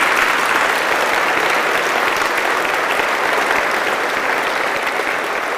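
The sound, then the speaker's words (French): A crowd at a group gathering applauds the presence of Jesus steadily and loudly, dense clapping sustained without pause from start to finish, a broad, even roar of hands. “Alors applaudissez la présence de Jésus.”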